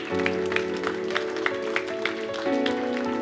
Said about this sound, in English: And so, guys, we ought to cheer them on, shouldn't we?